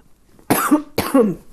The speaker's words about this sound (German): Entschuldigung, muss, glaube ich, gleich noch mal husten.